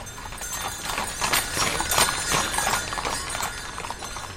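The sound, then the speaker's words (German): Hooves of a horse-drawn coach, of the kind used to carry the post over the pass, clip-clop in a steady, repeated rhythm, each sharp knock standing out over a constant rumbling, rattling background noise, with no voices heard. “Und nachher ist man eben auf die Kutsche.”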